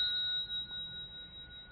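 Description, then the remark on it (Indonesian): A struck bell's ringing tone hangs in the air, a steady, clear resonance that sustains evenly through the moment without fading much. It is fairly quiet, alone against a hushed background. “Sebetulnya kan ada kesunyian ini, makanya kamu bisa dengar ada bel ini.”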